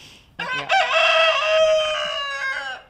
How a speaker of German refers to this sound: Etwa 7, 8 Hühner und 2 Hähne, einige bunt gefiedert, kommen an und picken die Körner auf